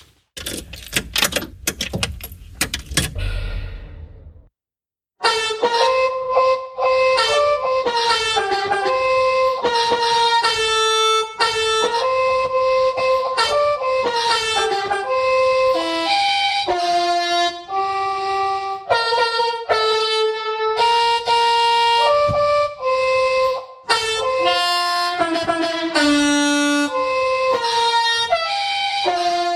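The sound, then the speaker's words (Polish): Locomotive horns in Vilnius play the Polish national anthem, an idea of conductor Zbigniew Lewicki. The loud, harmonically rich horns sound a slow, stately melody in sustained blasts, several tones layered together, preceded by a brief jangling clatter and a moment of silence. “w Wilnie pan Zbigniew Lewicki miał pomysł na to, żeby lokomotywy zagrały hymn Polski.”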